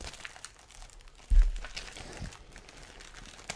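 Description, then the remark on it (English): Crinkly rustling and scraping of a taped-up package being worked open with keys, with a sharper tearing burst partway through, continuing as uneven crackles and scratches without any talking. “It's all taped up. You have your keys on you? I do. Can you open this, please?”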